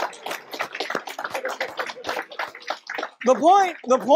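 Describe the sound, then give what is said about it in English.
Dense, steady audience applause with many overlapping claps, fairly loud throughout, followed near the end by raised voices or whoops riding over the clapping. “All right, let's give him a round of applause.”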